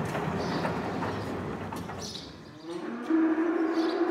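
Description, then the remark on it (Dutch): Cows, nicknamed the Bella's, moo in long, low, drawn-out calls, one swelling louder toward the end with a steady droning pitch, over a rumbling outdoor background and no talking. “Hier heb je ze, hè?”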